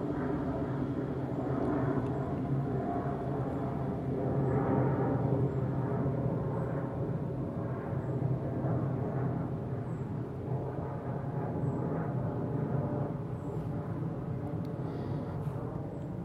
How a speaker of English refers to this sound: Well, let's just talk about planes, since they seem to be prominent. The last one was an EasyJet. I could see it.